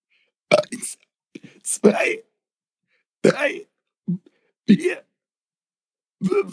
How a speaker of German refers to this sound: Dann möchte ich, dass du bis 10 rülpst. Okay.